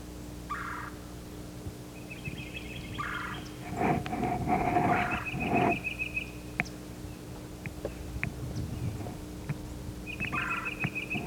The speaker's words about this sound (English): The flock is gathered here in a bare turkey oak. There are many birds, cardinals, titmice, myrtle warblers. There's a parula warbler.